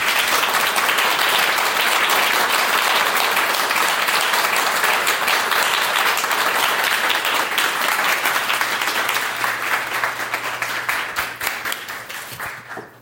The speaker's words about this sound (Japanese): 皆様大きな拍手をありがとうございました。